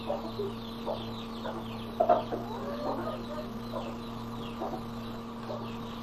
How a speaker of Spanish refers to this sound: Mira pues las gallinas, señor, muchachas.